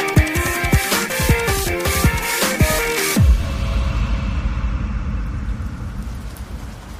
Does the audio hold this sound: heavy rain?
yes